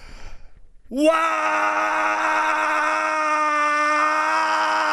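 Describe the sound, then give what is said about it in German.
A person lets out a single long, loud scream that starts abruptly after a brief quiet moment and holds steady at full strength for several seconds, with an open, outdoor feel. “Ja, und ich muss sagen, das Schreien hat wirklich gut getan, mal so richtig Druck ablassen.”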